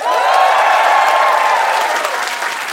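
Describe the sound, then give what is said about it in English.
A live show audience applauds, clapping for having heard the show before: a dense wash of many hands clapping at an even, loud level for a few seconds before easing slightly toward the end. “So just to meet everyone as a crowd, give me a round of applause if you've ever heard our show before.”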